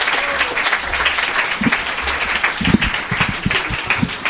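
Sustained audience applause as a performer is introduced, a dense crackle of many hands clapping at steady loudness throughout, with no voices standing out.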